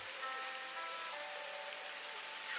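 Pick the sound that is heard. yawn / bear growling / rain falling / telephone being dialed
rain falling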